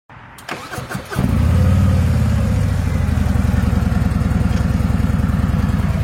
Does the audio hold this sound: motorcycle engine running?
yes